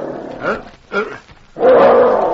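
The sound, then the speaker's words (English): A dog named Danny growls low as a warning, with two short rumbling bursts followed by a longer, louder snarling growl. “He sounded a warning, then looked at his master on the bunk. He growled louder.”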